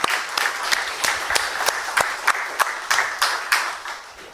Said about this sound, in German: Und deswegen ist es mir ein ganz großes Anliegen, immer mal zu sagen, vielen Dank all die fleißigen Hände, Helferinnen, Helfer. Deswegen von dieser Seite aus mal einen Applaus an das ganze Team.